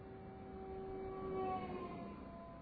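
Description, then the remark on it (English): A passing siren wails steadily, its pitch rising as it approaches and swells to a peak midway, then dropping lower as it recedes and fades, showing the Doppler shift, with a low rumbling hum underneath. “The pitch from the source didn't change, but the pitch from the observer did, because as it comes forward, those sound waves get crunched together and the pitch goes up and then it goes back down again as the sound recedes.”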